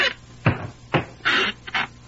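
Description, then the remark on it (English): Sweeney Todd's squeaky barber's chair creaks and rasps in about five short, uneven bursts, with a harsh scraping grind between squeals and no voices. “It seems to have picked up a bit of a rasp somewhere.”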